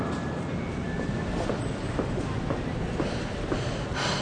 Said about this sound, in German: Achtung an Gleis 3. Es hat Einfahrt der Regionalexpress von Frankfurt nach Erfurt Hauptbahnhof. Planmäßige Ankunft 17.12 Uhr. Weiterfahrt um 17.16 Uhr. Nächster Halt ist Webra.